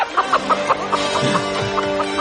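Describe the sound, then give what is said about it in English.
A chicken clucks steadily, a quick run of short, repeated clucks, fairly loud, with no one talking. “So there's this poor chicken.”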